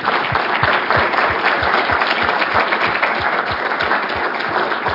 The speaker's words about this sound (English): So I want to give everybody at the panelists a thank you round of applause for being here.